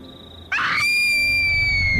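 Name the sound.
child screaming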